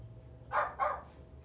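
A dog gives two quick barks in succession, somewhat muffled, against a low background hum with no one talking; the dog is barking because work is being done in the building.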